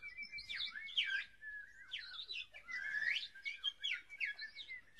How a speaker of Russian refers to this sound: Стояло лето, и в лесу пели птицы.